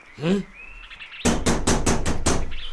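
A quick run of about six loud, evenly spaced knocks on a house door, following a brief voiced sound at the start.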